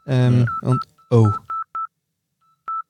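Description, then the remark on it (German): Telephone tones of an incoming call: a few short, clear electronic beeps at one steady pitch, spaced irregularly after a brief stretch of loud, voice-like tonal sounds, then a pause and one last beep. “Läutet jemand ein?”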